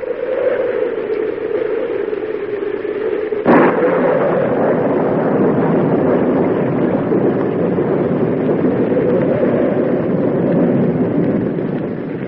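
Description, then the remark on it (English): Storm wind roars steadily, then a dense rushing hiss of rain sweeps in after a sharp burst a few seconds on, continuing loud and unbroken to the end with no voices. “Oh, here's the rain again.”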